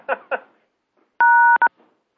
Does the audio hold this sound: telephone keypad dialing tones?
yes